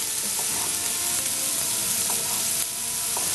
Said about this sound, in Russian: Вот у меня сковородочка уже нагрелась, масло в сковороде нагрелось. Как раз я заканчиваю нарезку чеснока, лука и моркови. И мы это все отправляем в сковородку. Пока у нас лук с морковкой поджаривается